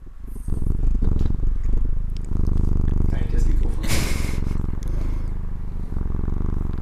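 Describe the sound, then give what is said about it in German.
A cat lying on a person's lap purrs loudly, a steady rumbling drone that runs through nearly the whole recording, with a brief rustling scrape near the middle. “So, nach einer kurzen technischen Katzenunterbrechung geht's weiter.”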